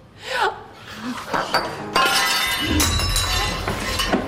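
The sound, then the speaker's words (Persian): A glass, accidentally bumped by a hand, gets knocked over and shatters with a sudden loud crash, followed by bright tinkling shards scattering and ringing for a couple of seconds, with brief voices around it. “من حواسم رو نبود، دستم خوردین شکست، ببخش.”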